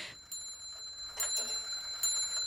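A clock rings with bright metallic chimes, struck in a few evenly spaced bursts whose high, sustained tones linger and overlap. Fairly quiet, with no voices.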